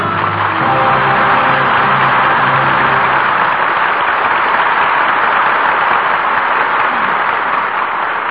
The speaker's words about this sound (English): Your applause gives proper salute to three fine performances. And now Charles Boyer, Paulette Goddard, and Susan Hayward return to the footlights.